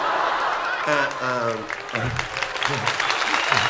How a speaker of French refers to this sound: Arrête! C'est pas la peine d'applaudir. Il est beaucoup plus important de chanter en mesure.